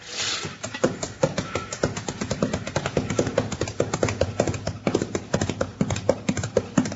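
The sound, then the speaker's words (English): Horse hooves of a horse named Starhead, ridden to a spring to fetch water, clip-clop steadily, with quick, sharp, irregular knocks repeating without a break for several seconds. A faint rumble sits underneath, and no one speaks. “Get on your horse and get down to the spring.”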